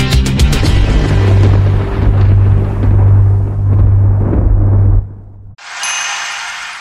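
Loud, deep rumbling thunder rolls on steadily for about five seconds with a crackling onset, then cuts off abruptly and a brief hiss follows.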